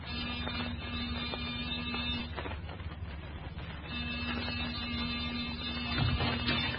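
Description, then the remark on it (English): A door buzzer sounds in two long presses separated by a short pause, each a steady, low, raspy electric drone held for a couple of seconds. “Give the buzzer a punch.”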